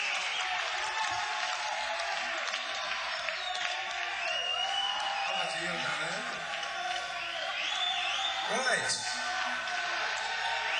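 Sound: applause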